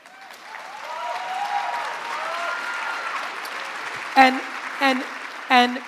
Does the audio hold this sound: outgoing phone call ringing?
no